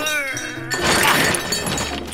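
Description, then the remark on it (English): 400 pounds of copper pipes are dumped into a car trunk: a ringing metallic clang gives way to a loud, sustained clatter and rattle of jostling metal that fills the rest of the moment. “400 pounds of copper pipes.”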